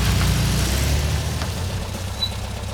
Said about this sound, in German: Als sie gerade ausgestiegen waren, fuhr ein weiterer Wagen auf das Gelände. Ein roter Alpha?